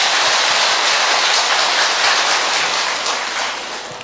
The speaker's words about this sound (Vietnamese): Trong tâm tình hiệp thông, chúng ta chúc mừng những người nhận thánh Gioan Maria Vianney. Một tràng pháo tay.